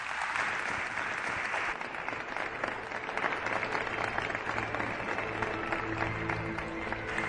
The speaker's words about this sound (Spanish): Un aplauso os pido para él. Gracias.